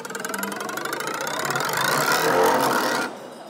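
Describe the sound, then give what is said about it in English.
A plucked metal bar buzzes and rattles steadily on a resonating chamber. A second bar is moved to change the vibrating length and wavelength, so the pitch slides and rises as it vibrates, growing slightly louder before cutting off abruptly near the end. “And essentially what happens when we pluck this is it starts to vibrate and it's on a chamber.”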